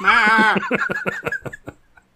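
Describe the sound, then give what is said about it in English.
A person imitates a goat's bleat in a Goat Boy impression: a sustained wavering nasal note breaks into a quick, stuttering series of pulses that fade out over about two seconds, heard alone. “It's like Goat Boy there for a minute.”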